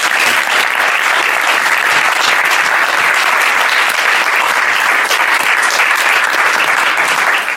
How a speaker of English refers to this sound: So thank you so much once again, Maharaj, for being with us for this retreat. We all thank you, Prabhupada, but please can we have once again a round of applause for Maharaj.